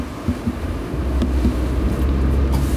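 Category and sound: vehicle, bus driving past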